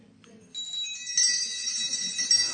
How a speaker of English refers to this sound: Yes, the bells rang.